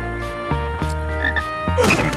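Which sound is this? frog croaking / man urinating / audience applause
frog croaking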